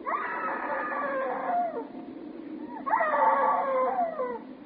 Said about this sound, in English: Hey, screaming woman!